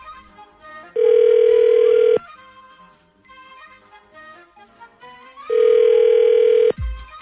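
An outgoing phone call from the Z104 Z Morning Zoo radio show rings twice on the line, each steady ringback tone lasting about a second with a few seconds' pause between, over faint background music, ending in a click as it's answered.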